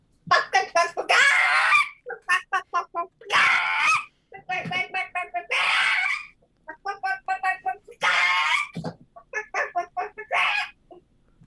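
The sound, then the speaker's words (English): A person imitates a hen's egg-laying cackle: rapid rising clucks building to loud, drawn-out squawks, repeated in about five bursts with short pauses between. “That sounds exactly like a chicken laying an egg.”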